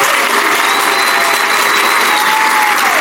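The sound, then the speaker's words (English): An audience at City Club claps for the superintendent, a dense, loud wash of many hands with no gaps, sustained throughout, with a faint high whistle-like tone gliding through the middle before the applause continues. “With that, could we have another round of applause for the superintendent?”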